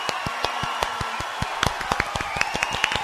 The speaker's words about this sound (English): Applause! Applause!